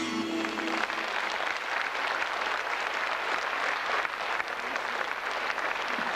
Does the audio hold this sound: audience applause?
yes